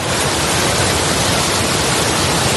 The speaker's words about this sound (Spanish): Esto no es un televisor estropeado, es la fuerza con la que cae la lluvia en la zona de Emilia-Romagna, al norte de Italia.